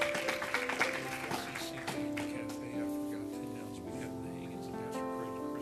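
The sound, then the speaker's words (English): An audience claps hands for first-time guests at an evening church service in a brief burst of scattered applause that thins out after a couple of seconds, over steady sustained musical tones that continue underneath. “Give them a hand clap for coming tonight, our first-time guest.”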